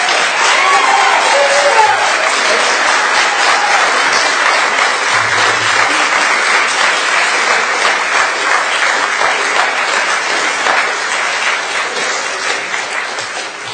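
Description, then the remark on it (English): A crowd at a public forum applauds at the end of a presentation, a dense wash of many hands clapping that stays loud for several seconds before slowly tapering off toward the end. “And I'd appreciate that we not have applause at the end of presentations.”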